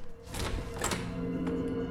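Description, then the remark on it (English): A door opens with a short, solid thunk and a brief scrape as a guard comes through, followed by a sustained low tonal hum in the background. No one speaks. “The pipe comes free, then the door opens.”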